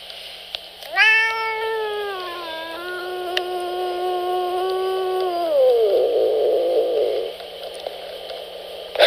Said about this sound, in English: That's right. Meow.